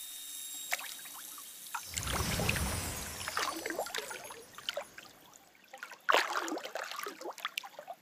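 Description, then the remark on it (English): A heavy splash and churning as someone wades or lowers themselves into cold water in an apartment, followed by gentle sloshing and drips, with no talking. “Get on into the water.”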